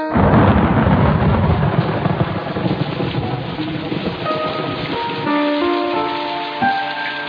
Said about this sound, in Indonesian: Ketika aku sedang berada di jalan layang Pasopati, tiba-tiba hujan turun sangat deras.